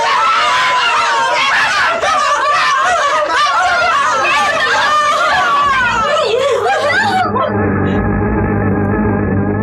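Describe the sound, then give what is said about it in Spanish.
Drums pound in a low rumble under fierce, wild yelling and whooping from a crowd of voices in the jungle, loud and chaotic, then cut off abruptly and give way to a steady, sustained tone. “El estruendo de tambores y la feroz y salvaje gritería cesan de pronto.”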